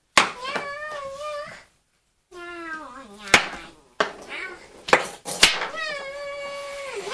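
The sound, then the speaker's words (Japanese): A child's voice imitates a cat, giving several drawn-out, wavering meows separated by short pauses, fairly loud, with a few sharp taps between them. “後でビデオ見ても猫ちゃんは可愛いけどさ。 ニャオニャオニャオニャオ。”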